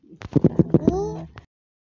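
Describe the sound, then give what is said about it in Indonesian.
A hungry cat meows once, asking for food: a short rising, whiny cry lasting about half a second, right after a few quick voiced syllables, fairly loud, then silence. “Kucing. Kucing nangis juga.”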